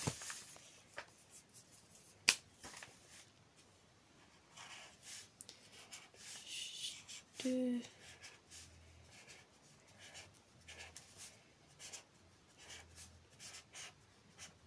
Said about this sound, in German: Ja, da muss ich erstmal kurz was schreiben. Und zwar schreibe ich mit so einem solchen Brush Pencil.